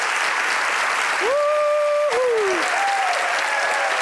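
Steady, dense applause from a studio audience for two guests joining via satellite, with an excited voice briefly whooping over the clapping midway through.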